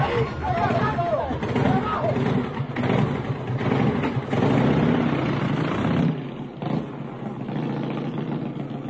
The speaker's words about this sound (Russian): Вдруг мальчики услышали выстрелы, шум грубых мужских голосов и звук отъезжающего мотоцикла.